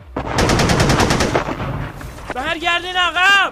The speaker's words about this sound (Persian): نمیشه. از بالا ارتفاع بهمون تیراندازی میکنن. زیر آتش مستقیم دشمنیم. نمیشه حرکت کرد.